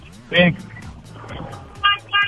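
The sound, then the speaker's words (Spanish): A car horn honks three times, sounded by a caller in his car to prove he is driving: one longer blast, a pause, then two short honks close together, heard through a noisy phone line with faint murmuring in the background. “nada más para comprobar que vas en tu auto, ¿puedes tocar el claxon 3 veces?”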